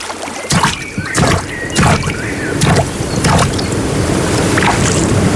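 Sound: water sounds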